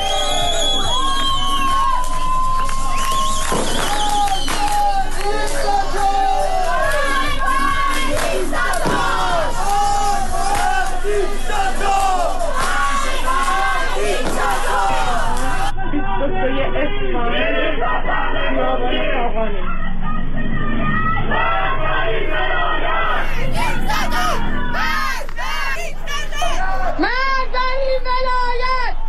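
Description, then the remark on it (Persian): Protesters in Iran, during nationwide Chaharshanbe Suri festivities, march and chant slogans against the Islamic Republic: a large crowd shouting together in loud, rhythmic bursts of many voices, with cheers and whoops rising above the steady roar throughout. “بنابر گزارش ها، شهروندان معترض از جمله مبادرت به راهپیمایی، سردادن شعار و همینطور به آتش کشیدن تصاویری از خمینی و خامنه‌ای کردند.”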